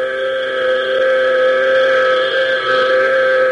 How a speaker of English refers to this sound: taking every advantage of the last possible clear air, Hawk, Tank, and Major McCall listened to the continuous sound of the warning buzzer. And as precious seconds pass, the never-ending buzzing seems to be ticking their lives away.